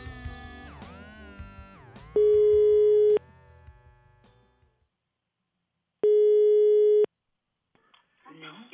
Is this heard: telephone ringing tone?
yes